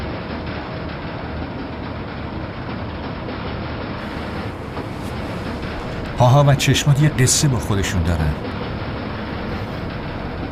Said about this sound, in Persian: این قطار جاهایی میره که خودت هیچ وقت نرفت.